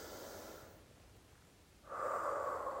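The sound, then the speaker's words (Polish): An airy breath drawn in through the nose during a seated breathing exercise, with a softer breathy sound at the start, a short pause, then a louder, steady sniffing inhale lasting about a second. “I przygotowujemy się do oddychania. Noskiem wciągamy.”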